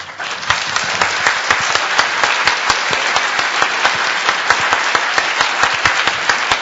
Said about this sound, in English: So again, I would give yourselves a round of applause.